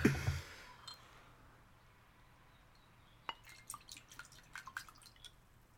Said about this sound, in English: Okay. And here it goes. It is fizzing. Barely. Barely fizzing. We're going to give it a go.